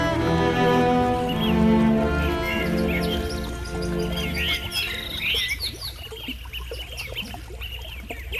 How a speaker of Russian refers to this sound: В километре от шумной магистрали тишина, которую только подчеркивает пение птиц и плеск воды. Источник, освященный именем святителя Николая, издавна притягивает людей.